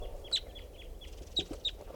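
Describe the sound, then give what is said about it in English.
A male bird, down at the water, gives a few short, sharp calls, spaced irregularly over two seconds, against a low outdoor background rumble with no one talking. “Calls of the male.”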